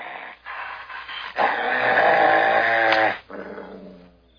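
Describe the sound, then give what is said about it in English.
A dog growls steadily, the rumble swelling louder and more strained in the middle before easing off, with whiny, whimpering tones mixed in. No one speaks. “The dog's very good.”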